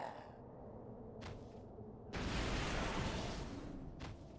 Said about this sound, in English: Something exploded. What exploded? Hello? I don't like explosions.